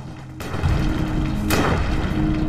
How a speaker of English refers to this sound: A reconstruction of men taking cover from gunfire on the battlefield at night.